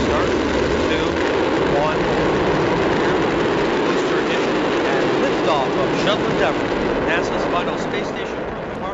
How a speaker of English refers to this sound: The space shuttle Endeavour roaring off the launch pad, delivering six astronauts and a new observation deck to the International Space Station in what will likely be NASA's last nighttime shuttle launch. T-minus 10, 9, 8, 7, 6. Engines are lit.